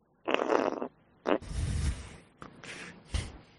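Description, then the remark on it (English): A voice does a celebrity fart impression, blowing a series of wet, buzzy mouth-fart noises: one long sputtering raspberry, then several shorter bursts of varying length, with no words spoken. “and she's killing with her celebrity fart impressions, which I did used to do.”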